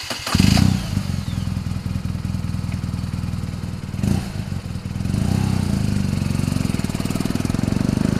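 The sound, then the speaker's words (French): A BMW R1200 GS motorcycle engine runs steadily, with a deep rumbling idle that surges briefly at the start and again midway before settling into a continuous throb. “La BMW R1200 GS se positionne en deuxième place du classement des motos les mieux vendues en Suisse cette année.”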